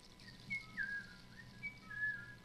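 The Coquena, a small figure with a wide-brimmed hat and a vicuña poncho, whistles a short, wavering tune near a hunter who fell asleep on a hillside, with several quick rising and sliding notes over a soft low background hum, no talking.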